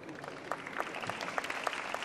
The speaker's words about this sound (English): So I'd just like everyone to give a big round of applause for my panelists, and thank you all very much for your time and for listening.